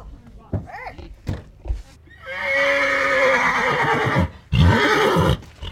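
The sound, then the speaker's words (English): At the Red Lodge Rodeo Grounds in Montana on a cold Saturday morning, as horses are readied for races combining horseback riding and skiing, a horse lets out a loud, drawn-out whinny lasting about two seconds, then a second shorter neigh, after a few soft thumps and murmurs at the start. “had to put on another layer at the Red Lodge Rodeo Grounds on a recent Saturday morning while getting the horses ready for their races.”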